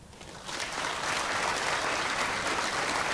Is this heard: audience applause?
yes